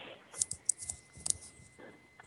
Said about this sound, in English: What was the question again? Sorry, I was typing.